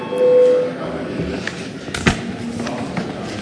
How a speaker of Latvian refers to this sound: Lūdzu, zvanu, balsosim par 18. deputātu Cilēviču priekšlikumu.